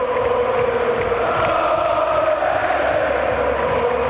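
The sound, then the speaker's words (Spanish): A huge stadium crowd of fans roars in a sustained ovation as a player receives a medal, a dense, loud wash of cheering and shouting voices that holds steady without pause, with no clear speech. “Y ahora, la mayor ovación.”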